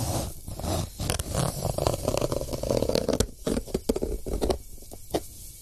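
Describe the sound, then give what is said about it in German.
A harsh, dry scratching like fingernails dragged over sandpaper, a steady gritty rasp broken by short, irregular scrapes toward the end. No one speaks over it. “und dann aus dem Wohnzimmer, dann, wenn das Handy voll ist, kommt dann so ein schabendes Kratzgeräusch, oh, so wie so Fingernägel auf Sandpapier.”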